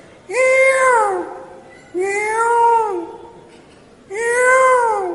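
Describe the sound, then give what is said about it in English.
Peacocks cry out three times in the morning in Braj, loud, wailing, cat-like calls, each rising then falling in pitch for about a second, separated by short pauses, with no talking. “So, in the morning, all the birds began to make their sounds, and the peacocks began to cry.”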